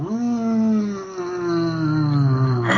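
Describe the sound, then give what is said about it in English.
A person's voice imitates a cat's growl as one long, steady, moaning tone lasting nearly three seconds, loud, with a slight rise in pitch at the very end. “It starts to growl at you. Cats aren't supposed to growl.”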